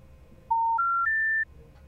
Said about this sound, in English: And maybe play that at the beginning of their own voicemail greetings and report back to us with what happens. So once again, here's the special information tone.